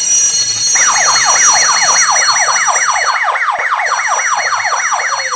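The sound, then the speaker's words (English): A loud, rapid wailing siren sweeps up and down repeatedly in a fast yelping cycle, steady, over a bright electronic tonal hum, with no voices, as alarms and sirens go off. “By now, alarms and sirens were going off and security guards were running willy-nilly all over the place.”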